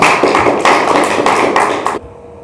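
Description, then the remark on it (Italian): An audience applauds with dense, steady clapping that stays loud for about two seconds, then cuts off abruptly into near silence. “Un applauso di tutti.”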